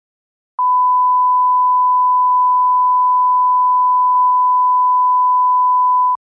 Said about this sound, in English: Are you ready for my beeped one? Please don't laugh at it, because I'm just going to have to beep it again in the follow-up.